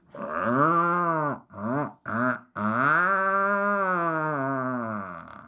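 A deep, drawn-out growling call from an adult puffin, a call between a mated pair: a long moaning groan broken by two short grunts, then another sustained low rumble, loud and steady with no talking.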